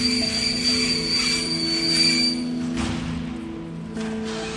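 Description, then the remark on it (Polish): A train idles at a platform of the PKP railway station in Lublin, Poland, a steady low mechanical hum with tonal whines overhead, broken by a couple of brief metallic clunks and thuds, with no one speaking. “Dzisiaj wyjeżdżałam z tego dworca, dokładnie z tego samego peronu, tylko inny pociąg stał.”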